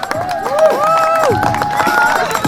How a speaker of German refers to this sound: So stürzt sich die erste Kiste 2017 unter den Haufen. Tösenden Applaus, ja? Lauter!